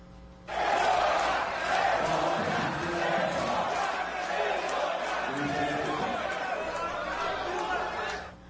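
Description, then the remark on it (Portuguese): A loud crowd shouts and boos continuously in a city council chamber auditorium during a council session, during the reading of the agenda and the vote, many voices overlapping into a dense, agitated roar that holds steady for several seconds. “A população não se calou com vaias e gritos, nem durante a leitura dos itens da pauta e durante a votação.”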